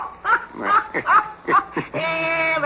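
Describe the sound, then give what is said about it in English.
A person imitates a dog barking with a rapid series of about six short, yappy woofs, fairly loud, ending in a long, steady held note. “And then I stood on my head and barked like a dog.”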